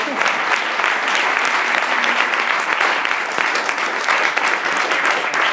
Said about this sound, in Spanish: Lidia García de Alicante, creo que no ha podido venir, pero yo os pido un aplauso para ella.